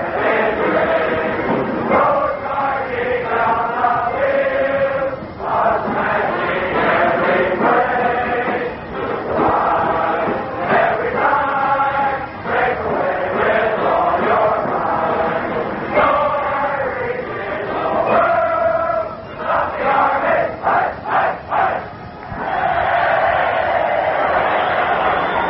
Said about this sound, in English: Time has been called with a minute and a half remaining in the first half of the football game. The Cadets start to sing, the band starts to play, and we start to listen.